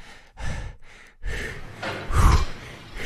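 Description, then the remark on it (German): A series of loud gasping breaths, four or five heavy inhales and exhales in quick succession, like someone catching their breath after holding it. “Ich beginne wieder zu atmen.”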